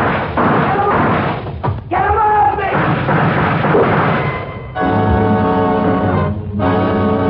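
A loud, booming gunshot sound effect in a radio drama bursts out, followed by a thick, sustained rumble and a swelling, tonal dramatic sting that holds for several seconds.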